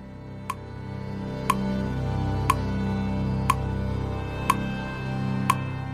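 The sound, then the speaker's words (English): A clock ticks steadily, six sharp clicks spaced about one second apart over a low, continuous background hum, with no voices. “When we come back, the clock begins ticking, and Byard begins to organize.”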